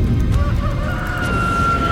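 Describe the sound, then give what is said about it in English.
A rooster crows once, a drawn-out, strained call rising over a low rumbling background, fairly loud and with no voices. “The cock will not crow before you deny me 3 times.”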